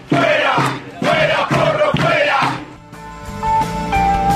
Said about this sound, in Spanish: Fuera, porro, fuera, gritaban los trabajadores de la Comisión Nacional de Energía Atómica en relación a Martín Porro, el actual presidente del organismo.